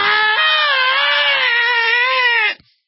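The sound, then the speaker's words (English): A person imitates a panicked scream, a single loud, strained wail held for about two and a half seconds before cutting off abruptly. “All their little minions that if you see somebody leave the bag, you know, on a bench while they go throw something in the trash to panic and start screaming and, oh, that's security.”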